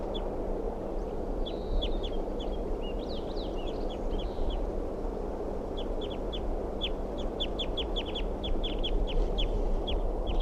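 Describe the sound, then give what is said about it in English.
Birds in a tree next to their nest tree call in short, high chirps, scattered at first and then in quick repeated runs, over a steady low rumbling background noise. No one speaks. “This is a bird in a tree next to the nest tree.”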